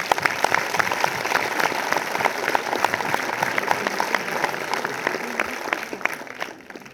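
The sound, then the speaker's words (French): Sustained applause for an actor, a dense patter of many hands clapping at a steady, fairly loud level throughout, with no voices standing out, easing off slightly at the very end. “Et franchement, je pense qu'il faut l'applaudir parce que c'est incroyable.”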